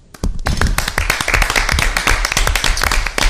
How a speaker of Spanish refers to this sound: A mí me gustaría aplaudirle.